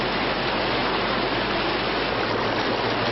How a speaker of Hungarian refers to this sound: Szendrőn a pinceablakokból és a kertekből is ömlik a víz. Ebbe az udvarba tegnap tört be a Bódva, az áradatnak azóta sem csökkent a sodrása.